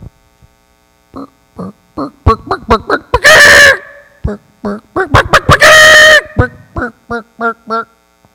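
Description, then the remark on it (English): A mother hen clucks in a quick, uneven run of short notes, breaking twice into loud, drawn-out squawks before settling back into steady clucking over a faint background hum. “So I was wondering, what is it like to be a mother hen?”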